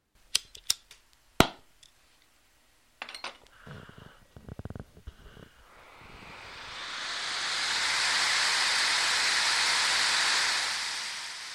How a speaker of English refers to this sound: Not the same kind of torch angry villagers carry to storm a castle, or the kind Indiana Jones might carry through a temple. It's a glass-blowing torch.